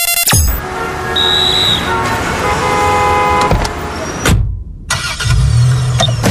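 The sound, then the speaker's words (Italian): Loud city traffic with steady engine rumble and passing cars, a car horn tooting briefly, then a short gap before the busy street noise resumes. “Come faccio a sorridere anche nel traffico cittadino?”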